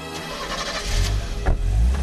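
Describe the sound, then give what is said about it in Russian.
A car engine turns over and catches, then rumbles louder and revs up as the vehicle pulls away, with no one talking. “За той машиной!”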